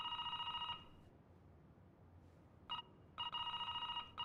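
An intercom bell rings in bursts: a long trill, a brief blip, then another sustained ring, loud over a faint low rumble, with no voices.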